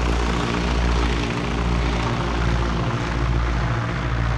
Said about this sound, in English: The Spartan aircraft chugged above the crated rice paddies below, on its way to the relative safety of neighboring Thailand.